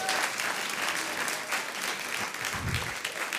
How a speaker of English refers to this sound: Please, can you clap for me and encourage me?